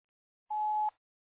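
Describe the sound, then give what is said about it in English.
A single steady electronic beep at a mid pitch, lasting about half a second, cutting off cleanly into silence. It is the classic tone that signals recording has started on a voicemail. “I'm sorry I cannot answer your phone at this time, but leave a brief message and I will call you back as soon as I can.”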